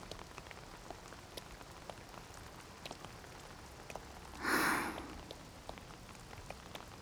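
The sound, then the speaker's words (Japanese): Steady heavy rain, growing ever stronger, patters on a surface at the end of the year, a dense hiss dotted with sharp drips, swelling briefly into a louder rushing splash midway before settling back. No voices. “ますます強くなってきたね。雨は嫌いではないけれど、年の瀬くらい晴れてくれてもいいのにね。”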